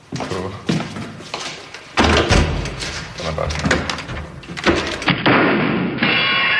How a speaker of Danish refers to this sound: Her er det dørkarmen, som hænger meget løst. Døren kan ikke lukke som sådan, altså jeg behøver ikke nøgle for at komme ind. Prøv at gå ud og lukke.